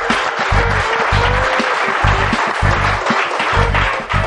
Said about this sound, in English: So I do want to give special thanks once again to Seminole Community College here at Sanford Lake Mary campus. I think we owe them a big round of applause for hosting us.